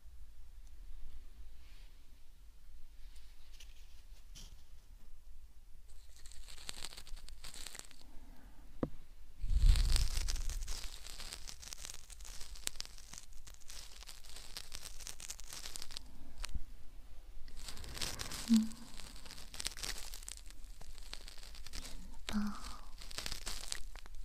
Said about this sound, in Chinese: 轻轻地刮着你的耳道，沙沙的声音